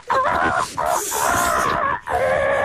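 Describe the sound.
A person mimics a seagull with loud, strained, wailing cries, three drawn-out squawks with harmonic bands wavering in pitch and brief pauses between them.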